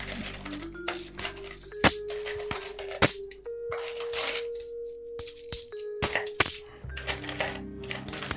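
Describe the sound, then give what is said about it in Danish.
Coins clink and rattle as they are shuffled and dropped onto a hard surface, with several sharp metallic strikes and ringing tones among the jingling, fairly loud, no voices. “Jeg skal aldrig blande de her åndssvæde mønter rundt.”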